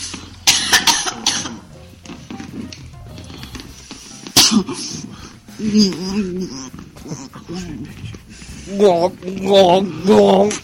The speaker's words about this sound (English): I also have a deep throat blow job where the girl keeps choking on the cock. Come on. Just whimpering and crying.